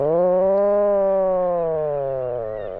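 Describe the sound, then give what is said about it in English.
Atlantic puffins on Great Island, Newfoundland, give a long, loud moaning snore from their burrows: one sustained, buzzy drone, rich in harmonics, holding steady before sagging slightly in pitch, with no other sounds. “Puffins lay their eggs in burrows, and they also call from their burrows, making moaning snores, reminiscent of the whine of a chainsaw.”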